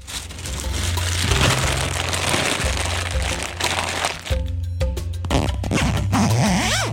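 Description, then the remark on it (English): A zipper on a garment is pulled and worked, giving a continuous scratchy rasp mixed with fabric rustling, then a few sharp clicks and snags toward the end. “Your poor zipper, bro.”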